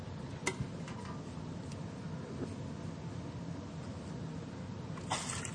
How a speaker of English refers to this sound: you should wipe the water bowls well, okay? And you take a cloth. You know, like this.